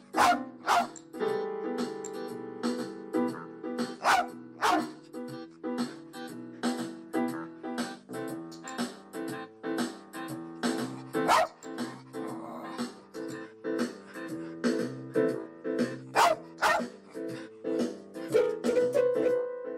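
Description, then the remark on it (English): Lolabelle, Laurie Anderson's blind dog, barks and yips repeatedly while playing an electric keyboard placed on the floor as music therapy: sharp barks punctuating sustained, uneven chords in a loose, playful rhythm, clear with no talking. “To give her some sense of structure and pleasure, Anderson got her a form of music therapy, including piano lessons using an electric keyboard which was placed on the floor.”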